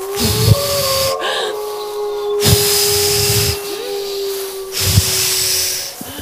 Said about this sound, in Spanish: Lo máximo que puedas y sigue soplando sin parar.